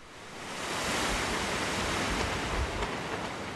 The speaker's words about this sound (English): By the time Irene hit North Carolina's Outer Banks, it still packed 85-mile-per-hour winds and higher gusts.